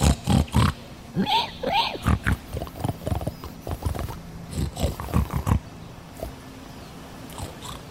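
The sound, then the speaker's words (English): Voices imitate a pig, speaking a made-up "Hog Latin," with a rapid string of snorting grunts and snuffles for several seconds before fading into quieter breathy noises. “I don't speak pig. I think if you're doing something I can't understand, you don't have to do it gently and quietly and snufflingly.”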